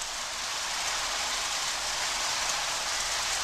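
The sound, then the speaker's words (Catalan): Steady rain pours down in a dense, continuous hiss, even and unbroken throughout, with no voices or other sounds standing out. “El Déu Inti, compadit, va ajuntar uns núvols i va fer ploure.”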